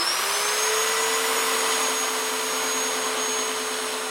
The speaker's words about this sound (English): He takes hold of his chainsaw and leans in.